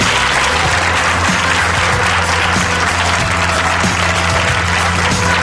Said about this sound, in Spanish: el aplauso de este programa te lo llevas tú.